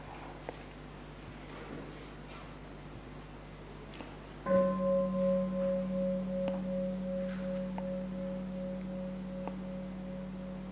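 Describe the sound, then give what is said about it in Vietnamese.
A single deep bell is struck once partway through and rings out with a long, slowly fading hum that sustains to the end, heard alone. “Mời quý vị nghe một tiếng chuông rồi chúng ta tiếp tục.”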